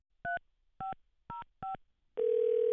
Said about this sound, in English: I can get NPR senior librarian and pronunciation expert Key Molesky with just four touch tones.